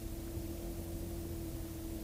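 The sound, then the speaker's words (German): The engine of a car coming to Comacchio drones steadily, a low rumble with a sustained humming tone that holds at an even level for the whole two seconds. No voices are heard. “Nichts. Ein Auto. Aber es kommen öfter Autos nach Comacchio.”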